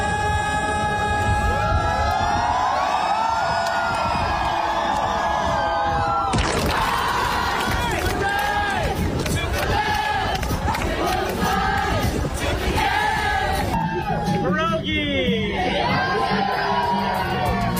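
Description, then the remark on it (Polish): A large crowd of fans cheers and screams loudly and continuously, with whoops, shouts and excited chatter rising in bursts, the roar swelling sharply partway through. It is a singer's surprise mini-concert at the Adam Mickiewicz monument on the main market square in Kraków, Poland. “Tak brzmiał mini-koncert przy pomniku Adama Mickiewicza, a słowo pierogi z ust wokalisty pada nieprzypadkowo.”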